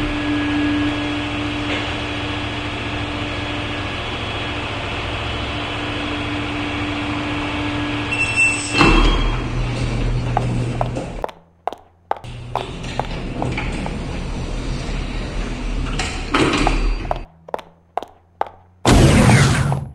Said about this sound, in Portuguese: Uau! Nunca imaginava que o meu novo emprego tinha portas que abria só da gente chegar perto. Caramba!